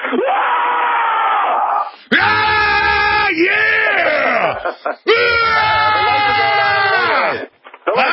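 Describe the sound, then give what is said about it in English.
A group of people let out a loud war cry, growling and yelling together in two long sustained bursts after a brief stretch of rough, noisy sound. “I want to hear that in a minute, but I want to hear your war growl.”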